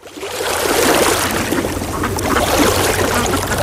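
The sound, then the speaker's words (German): Steady rushing and lapping water of a lake, spring and river in Bavaria, with a dense splashing texture that fades in quickly and holds at an even, fairly loud level throughout. “Hier am Wasser klingt Bayern anders. Hör hin. See, Quelle, Fluss.”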